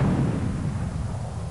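A loud, deep cannon blast ends a theme song, rolling out as a heavy booming rumble, sustained and slowly fading over a second or so, with no voices present.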